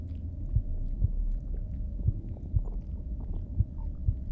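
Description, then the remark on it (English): A deep, muffled internal rumble churns steadily while soft paired thumps of a heartbeat recur at a slow, even pace underneath, with no voices. “Can you hear the sounds of my stomach? And my heart beating too.”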